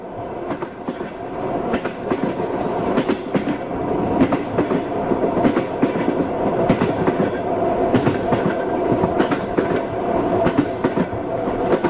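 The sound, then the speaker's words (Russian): A train rumbles steadily along the rails, its wheels clicking and clacking in a regular rhythm over the track joints, fairly loud throughout with no voices. “Вот эта поездка в поезде, запах железнодорожного вокзала, запах поезда, запах самих железнодорожных путей.”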